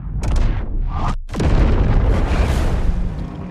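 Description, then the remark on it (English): A spaceship explosion as a burning airplane engine collides with the spaceship: a loud roaring blast, a split-second drop to silence, then a second heavy boom that rumbles on with crackling debris for several seconds. “The airplane arcs in the air, and the burning engine collides with the spaceship, exploding.”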